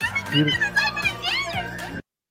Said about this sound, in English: I should get my bird app out because that sounded like a red-breasted chickadee, actually.